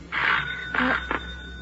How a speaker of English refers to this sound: The doorbell.